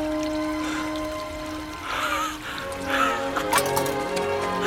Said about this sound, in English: A stream in a small oasis. Water.